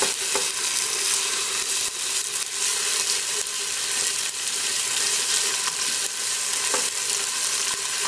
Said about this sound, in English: Now we're going to add our tomato paste. And I like frying my tomato paste until it changes color. And it'll start smelling really, really good.